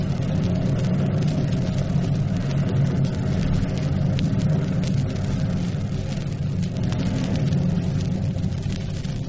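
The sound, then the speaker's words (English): An avalanche, started by shouting, coming down a snowfield: a loud, unbroken roaring rumble, heavy in the low end, with a rough hissing crackle on top that holds steady the whole time, no voices. “An avalanche.”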